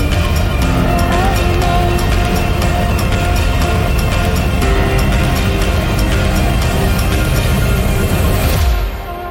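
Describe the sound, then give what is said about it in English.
A deep, thunderous roar of rocket engines at liftoff, loud and steady with heavy rumbling bass for about nine seconds before abruptly cutting away. No voices are heard. “12, 11, 10, 9, ignition sequence start. 6, 5, 4, 3, 2, 1, 0, all engines running.”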